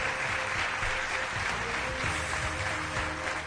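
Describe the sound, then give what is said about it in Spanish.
An audience claps steadily to welcome the mayor of Murcia, José Ballesta Germán: a dense, sustained wash of applause at an even level for the whole stretch, with no voices rising above it. “Reciban con un aplauso al alcalde de Murcia, hombre, que es don José Ballesta Germán.”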